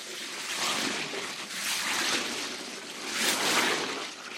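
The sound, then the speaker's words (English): An elephant sucks water up its trunk and sprays it: three hissing, splashy surges of water rise and fall in quick succession, steady, with no voices. “L'éléphant lent sucked water up its trunk and sprayed Nico.”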